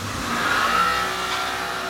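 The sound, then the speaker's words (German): A large, 8-metre-long ski grinding machine at the firm Ski- und Sportprofis in Mainz grinds a pair of skis, throwing orange-yellow sparks, with a steady, dense whir and rumble, a thin whine briefly rising above it. The sound holds evenly loud throughout, with no voices. “Durch eine riesige, 8 Meter lange Schleifmaschine wird ein paar Ski gejagt.”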